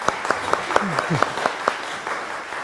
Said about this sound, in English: I appreciate that you are not clapping at the end of the piece here, but the choir's back, so why don't we clap and welcome them back?